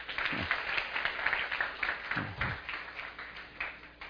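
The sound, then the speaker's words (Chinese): An audience claps steadily for about four seconds, a dense, even patter of many hands with no clear breaks, holding at a moderate level throughout. “掌声鼓励一下吧，来。”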